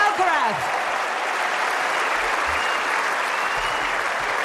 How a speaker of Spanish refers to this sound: Esta es la ovación para el campeón de Wimbledon.